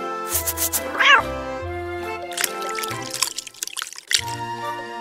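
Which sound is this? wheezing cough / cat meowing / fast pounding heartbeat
cat meowing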